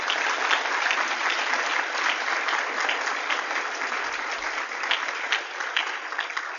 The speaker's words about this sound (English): Now, when I said before that you could hold your applause to the end of their statement, you can still applaud, so don't feel afraid to do that.